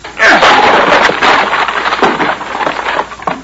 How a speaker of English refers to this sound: Oh, stand back, Vitamin. I'm going to crack that door open. Once more ought to do the trick.